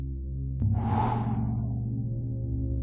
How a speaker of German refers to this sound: Wir atmen noch einmal tief ein. und wieder aus. Atmen erneut tief ein und wieder aus.